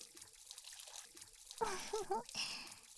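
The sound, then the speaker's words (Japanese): A shower sprays on partway through with a steady, bright hiss of running water, briefly overlapped by a voice, then continues spraying to the end. “じゃわー。熱くない？気持ちいい？”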